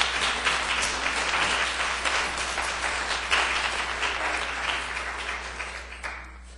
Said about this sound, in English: So I think they deserve a special round of applause.